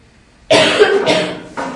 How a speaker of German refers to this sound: Darf der Papa ins Bett? Papa hat ganz tolles Husten.